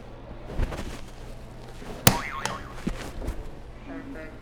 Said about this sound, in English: I think I can let you hit another buzzer if you want. Yeah. Which one do you want to hit?